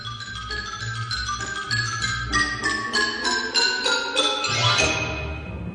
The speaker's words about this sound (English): The xylophone.